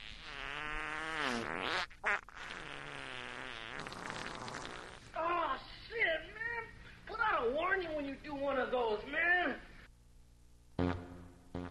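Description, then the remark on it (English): Loud fart sound effects played for the Asshole of the Week segment: a long, wavering, buzzy one first, then a string of shorter squeaky blasts that rise and fall in pitch, with brief gaps between them. “Tonight, where's the fart sounds? We need fart sounds for Asshole of the Week, starting with Cheech from Cheech and Chung.”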